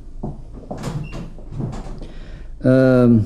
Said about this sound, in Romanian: Perfect. Închide ușa acum.